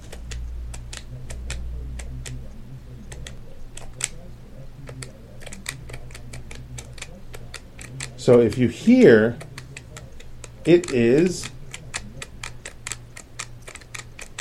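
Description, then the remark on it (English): Crisp, clicky keys of a Hable keyboard with slightly curved keys are tapped in a steady patter, with a man briefly speaking over the typing partway through. “The thing about the Hable, though, is if I start typing, I can go...”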